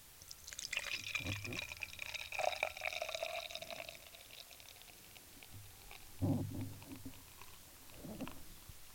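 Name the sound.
beer poured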